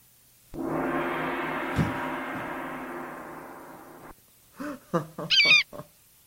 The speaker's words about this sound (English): Holy shit, do you have a bird? Well, an eagle, it says. Really? That's an eagle? Yeah.